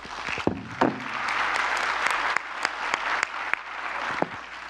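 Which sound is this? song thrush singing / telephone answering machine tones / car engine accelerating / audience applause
audience applause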